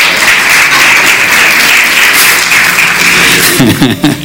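A crowd applauds loudly and steadily for several seconds, a dense wash of clapping that begins to thin out as a voice starts speaking at the very end.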